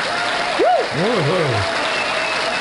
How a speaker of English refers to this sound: Yes. And where's your applause? Because today is the first show of our new fifth year.